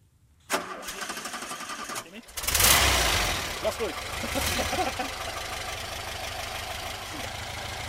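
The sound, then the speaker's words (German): An old VW bus engine is cranked with the starter outdoors, whirring steadily for a couple of seconds before it catches with a loud roar and settles into a rough, uneven idle. “Draußen im Freien macht sich Sebastian Knierin am Anlasser zu schaffen.”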